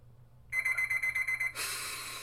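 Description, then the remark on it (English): An alarm clock set for 7 rings with a shrill, rapidly pulsing electronic beep for about a second, then gives way to a loud, harsh rushing noise. No one speaks. “When I get back to my room, I set my alarm for 7 and get into bed.”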